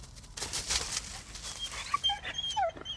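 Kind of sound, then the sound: animal, dog barking and whimpering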